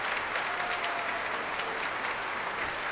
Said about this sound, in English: And he's getting the saxophone section of the BBC Symphony Orchestra to its feet for a special round of applause at the beginning before the rest of the orchestra.